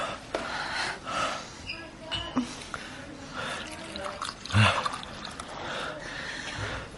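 Water splashes and trickles steadily for several seconds as it is poured into a glass, with a brief louder slosh partway through and a faint background hum.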